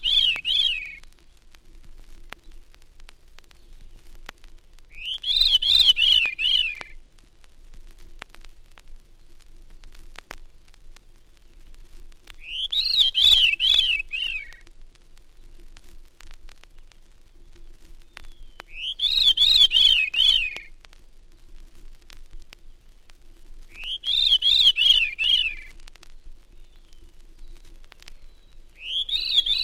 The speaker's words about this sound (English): Next, the Veery's descending spirals near the Cornell campus.